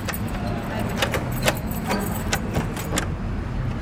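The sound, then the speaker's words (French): Keys jangle in a string of bright, irregular metallic clinks as a guardian unlocks the door of an Armenian-rite church in Raqqa, with a steady low rumble underneath throughout. “Tu as les clés pour nous ouvrir ? Oui, j'ai les clés.”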